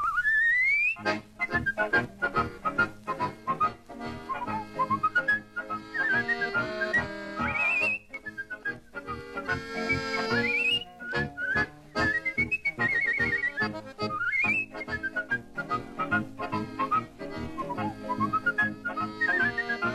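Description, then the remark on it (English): A person whistles a lively melody with swooping glides and quick trills, clear, over a steady musical accompaniment with no talking. “Milwaukee's favorite listener and whistler.”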